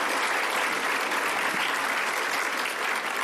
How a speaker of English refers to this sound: So first of all, let's give a round of applause to everyone for giving us some information.